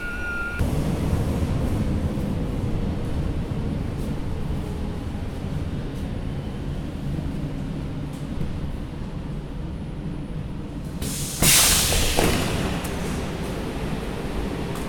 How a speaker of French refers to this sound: Nous voilà dans le métro, on embarque pour atterrir on ne sait où.